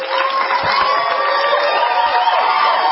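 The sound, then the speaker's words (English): A large group of people screams, yells and hollers together outdoors, a loud, continuous wall of overlapping voices that holds steady without any pause. “And they were waiting to get out there and scream and yell and holler.”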